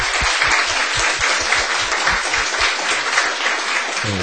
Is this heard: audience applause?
yes